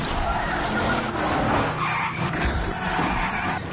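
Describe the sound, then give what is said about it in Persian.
A car skids loudly with screeching tires and roaring engine noise and crashes into a police car, a dense continuous burst of vehicle sound lasting a few seconds, without speech. “آقای تماشاگر زد به ماشین پلیس.”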